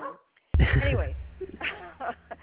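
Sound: dog barking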